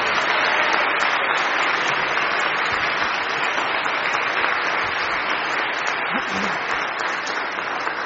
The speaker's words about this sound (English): Okay, just so you all know, they nailed every line. So one more round of applause for these great kids.